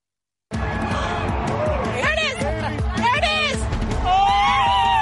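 A large crowd in America cheers loudly at the moment of totality of a total solar eclipse as it passes overhead, a steady roar of voices with rising, high-pitched whoops and screams breaking out in the middle, continuing without pause.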